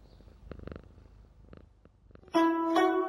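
A cat purrs softly and steadily while licking a person and biting at the sleeve of their coat, with faint rhythmic pulses, before a sudden loud, drawn-out tonal cry takes over at the end. No one speaks.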